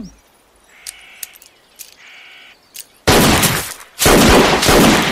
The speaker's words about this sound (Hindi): बीरू ने अपनी बंदूक की ओर देखा, ये गोलियां जय ने चलाई। जय ने रिवॉल्वर वापस रखी और फिर लेट गया।